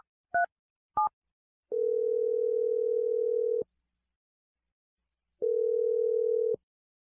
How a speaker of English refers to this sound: I'm going to dial Ava's number right now.